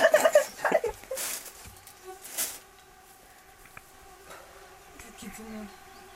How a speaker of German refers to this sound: ist da was drin, Berit? 100.000 Mücken.